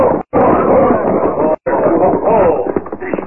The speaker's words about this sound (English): Look out for that dog. He's a killer. He ain't no killer. Quiet now, boy. Quiet.